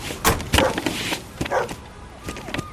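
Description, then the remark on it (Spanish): Several dogs brought in to inspect a truck bark in short, sharp bursts scattered across a few seconds, fairly loud, with some whining between the barks and a faint voice in the background. “Venga, con los perros.”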